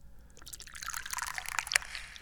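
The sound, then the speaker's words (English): Tea pours steadily into a cup, a bright trickle of liquid that rises in pitch and splashes a little as the cup fills, with no voices. “I'm the chairman of the Dubious Goals Committee, and I'm pouring tea.”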